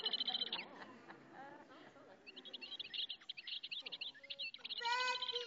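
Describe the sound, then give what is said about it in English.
A lively mix of birds chirping and calling: rapid trilling tweets, repeated sharp notes and a few harmonic whistled calls, layered over a faint background hum. “Birds, that's right.”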